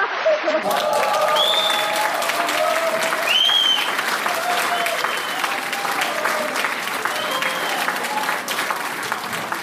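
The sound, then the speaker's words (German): Sustained applause, the sound for which the Mettauer Tal, a small Swiss municipality of 2,000 inhabitants, is known; a dense steady patter of many hands clapping at even loudness for the whole stretch, with faint whoops and cheers rising above it. “Und Applaus, Applaus, Applaus!”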